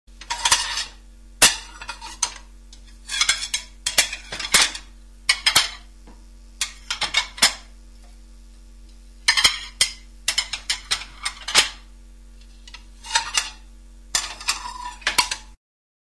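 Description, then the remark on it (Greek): Plates and cutlery clink and clatter in irregular bursts, bright rattling strikes separated by brief pauses, with a faint steady hum underneath and no voices. “Πιάτα.”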